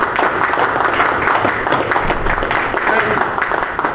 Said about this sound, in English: I think this board owes her a round of applause for heavy work.